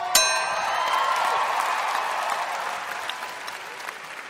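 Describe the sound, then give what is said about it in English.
An audience bursts into sustained applause, a dense, steady wash of clapping that holds loud for several seconds and begins with a sharp bright ding. “I don't get that type of applause.”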